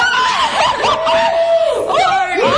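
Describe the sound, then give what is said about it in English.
Women, including American Idol judges Kara and Paula, shriek and yell at once at the judges' table in a loud, sustained burst of shocked excitement, high voices swooping and overlapping with bits of laughter, continuous for a few seconds. “Who's yelling like that?”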